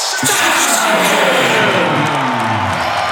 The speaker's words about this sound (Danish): Og hele stadion råber med på efternavnet,